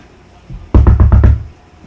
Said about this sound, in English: What are you knocking on? The straw wall. The rice paper wall.